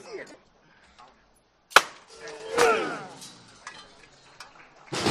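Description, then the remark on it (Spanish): A few sharp, loud raps of a capataz's hammer knocking on a wooden float of the Hermandad del Carmen, spaced irregularly over several seconds, with faint murmuring voices in the background. “Pues, como habéis escuchado, compañeros, ha tocado el martillo, seguro que lo conoceréis, lo conoce Sevilla,”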